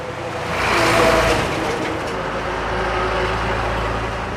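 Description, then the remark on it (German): Heavy trucks, each loaded with 30 tonnes of coal, rumble steadily through the city of Yangchuan in Shanxi Province, northern China; a deep low engine drone and a broad roar that swells as a large vehicle passes, then continuous street noise. “Mit je 30 Tonnen Kohle beladene Lastwagen donnern durch die Stadt Yangchuan.”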